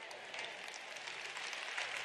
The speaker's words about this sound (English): Well, you'll clap louder by the end of the weekend, so sorry.